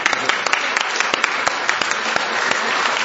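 Steady applause from a group during a Senate session, for Mr. Monson, elementary principal at Parkston and president of the National Association of Elementary School Principals: dense overlapping claps with a few sharper individual claps standing out, holding at a fairly loud, even level for about three seconds with no speech over it.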